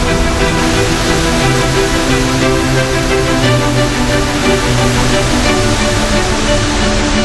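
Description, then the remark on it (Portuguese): A powerful waterfall fed by melting mountain snow and ice in the Rocky Mountains in late March roars steadily, a dense, continuous rush of falling water that stays loud throughout with no pauses or voices. “3 mil cachoeiras surgem nas rochosas.”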